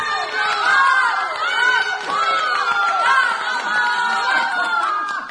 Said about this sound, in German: Ja, und noch ein Applaus für unseren schwarzäugigen, gluthaarigen Toni Tabletino.